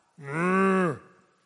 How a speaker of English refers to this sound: God just spoke. Cow.